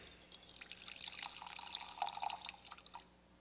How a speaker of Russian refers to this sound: Вот есть сосуд пустой, и вот есть у меня вода. Я вот наливаю ее.